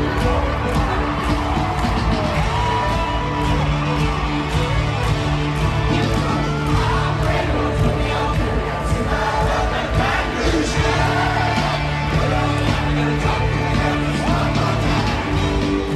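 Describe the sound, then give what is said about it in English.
A massive stadium crowd at LSU's Tiger Stadium cheers and sings along to a song in a dense, sustained roar, loud and steady throughout with no break, the many voices blending into one wall of sound. “But just remember that this song registered an earthquake at LSU's Tiger Stadium.”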